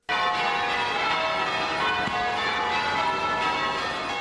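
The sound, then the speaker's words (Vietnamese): Bells of churches across the city of Charlton, South Carolina ring together continuously, a dense, sustained wash of overlapping metallic tones with a steady, resonant hum and no pauses, heard alone without any voices. “Các nhà thờ trên khắp thành phố Charlton cùng đổ chuông để bày tỏ tình đoàn kết đối với nhà thờ là tâm điểm của vụ tấn công làm 9 người thiệt mạng hôm thứ Tư tuần trước.”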